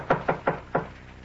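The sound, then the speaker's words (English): Four sharp knocks rap on a door in a quick, slightly uneven rhythm, fairly loud, followed by a brief quiet moment with no voices. “While I answer the door.”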